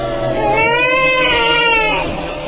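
An eerie, drawn-out baby's wail rises and falls in one long, loud cry over a dense, murky background hum, with no talking.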